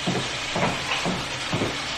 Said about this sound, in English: Oh, it's raining hard. It's not raining at all, no. Well, what is that I hear out there? It's raining again. Real hard.